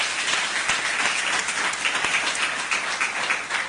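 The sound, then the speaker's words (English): A crowd claps steadily for several seconds to celebrate people from CNBC, a dense, even wash of many hands with no voices on top, the applause holding at a constant level throughout. “Shall we give them a round of applause?”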